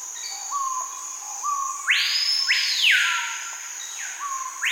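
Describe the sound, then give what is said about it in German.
Melodious blackbird song, a bird long regarded as the loudest: short, clear whistled notes followed by two loud, sweeping whistles that rise and fall, with a steady high-pitched insect-like buzz running underneath throughout. “Ja, das ist hier so ein Blackbird, so ein Singstar. Melodious Blackbird hört sich so ähnlich an.”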